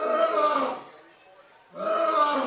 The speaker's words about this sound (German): Das Gebrüll des Löwen im Zoo von Cali reicht an diesem schwülen Morgen sogar bis zur weit entfernten Voliere, die Pilar Quintana und ich betreten haben.